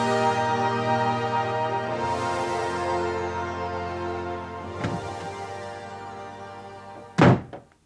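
A sustained musical drone, then a door bursts open with a dull thud as someone rushes through the hallway into the kitchen, followed by a loud, sharp slam near the end. No one speaks.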